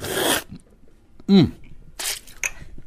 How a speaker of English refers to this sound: You know, it would be naughty for me to be here and not do a little sniff and slurp myself. So can I grab a little spoon here? Here we go. A little sniff first. Oh, yeah. That's Don Francisco right there. And a little